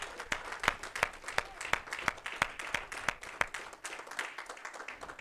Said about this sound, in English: Let's give God another hand clap of praise. Amen.